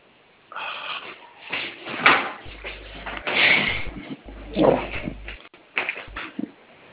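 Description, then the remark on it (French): A drawer slides open and the things inside are rummaged through to find an identity card number, with scraping, squeaky rubbing and small knocks coming in bursts over several seconds. No one speaks. “Ça est dans le tiroir. Je vais chercher ça là, je vous communique, c'est ça?”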